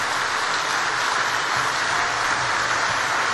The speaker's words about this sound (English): And as you hear, the platform party is arriving. They've had the exhausting trip down the front of the university, so give them some support with a round of applause when they come in. And here they come.